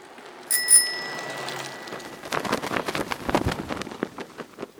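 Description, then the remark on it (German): A bicycle bell rings twice in quick succession, its bright metallic tone lingering, followed by a steady clatter of rattling, ticking bike parts as the bicycle rolls along in Amsterdam. “Er und seine Familie fahren, wie alle in Amsterdam, fast immer mit der Fiets.”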